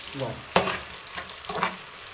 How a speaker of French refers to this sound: Un peu de piment. Du piment vert. Piment vert. Pour la viande. Donc là, tu as tout mis le piment et l'oignon dans la casserole et tu fais rissoler.